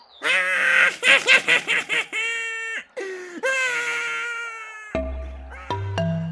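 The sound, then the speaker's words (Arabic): A voice imitates a sad crow crying because a fox ate its piece of cheese: loud, high-pitched wailing sobs in quick pulsing bursts, then long drawn-out cries, followed by a few steady electronic tones near the end. “الغراب حزين لأنه ما أكل قطعة الجبن. الغراب يبكي.”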